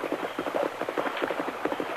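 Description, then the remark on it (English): Horse hooves clip-clop in a quick, steady rhythm as a rider passes, crossing the bridge and heading toward the Turner Ranch, the hoofbeats moderately loud, with no voices over them. “Tonto, whoever that rider was, he's crossed the bridge.”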